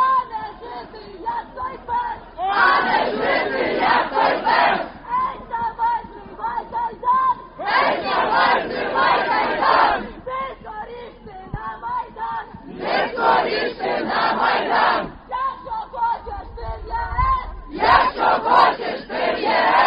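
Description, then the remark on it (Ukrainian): A large crowd of students from the Ukrainian Catholic University chants a slogan at Euromaidan in loud, repeated bursts every few seconds, with quieter crowd murmur and shouting filling the gaps between each chant. “Це кричалка від студентів Українського католицького університету.”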